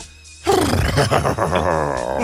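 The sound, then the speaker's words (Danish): After a brief hush, a person lets out a loud, strained whinny imitating a horse's neigh, its pitch wobbling and quavering for nearly two seconds. “Dit hestevrinsk.”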